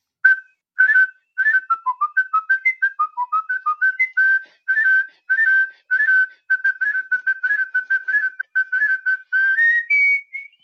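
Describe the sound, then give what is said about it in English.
A person whistles Rossini's William Tell Overture, known as the Lone Ranger song, alone, with quick repeated notes in a galloping rhythm, clear, ending on a higher sustained note. “so I whistled that, and I whistled a few more songs”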